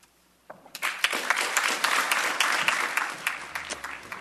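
An audience breaks into applause after a poem reading, following a brief quiet start: a dense crackle of many hands clapping that swells quickly and holds steady, with a few sharper individual claps standing out.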